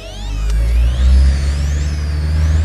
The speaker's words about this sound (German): Und zunächst fuhr er ganz gemächlich, doch dann fiel ihm auf, dass sie verfolgt wurden. Und er gab Gas.